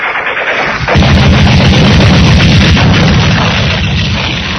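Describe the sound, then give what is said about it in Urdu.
A loud, sustained burst of machine-gun fire from an enemy tank on a battlefield erupts after a brief moment and rattles on rapidly and continuously until the end, dense, with a heavy booming undertone. “اچانک دشمن کے ٹینک سے مشین گن کی گولیوں کی بوچھاڑ آئی اور اس نے سوار موٹر سائیکل کا سینہ چھلنے کر دیا.”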